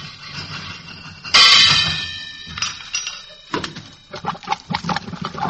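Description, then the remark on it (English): A tool strikes a metal plumbing pipe joint with one loud, ringing clang that slowly fades, followed by a run of lighter, uneven knocks and clatters against the plumbing. “If it's the joint, a couple of bangs might do it.”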